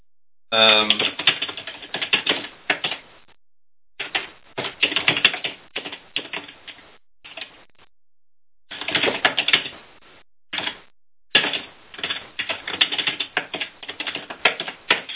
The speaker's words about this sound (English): Just a second. I'm typing in straw poll topic.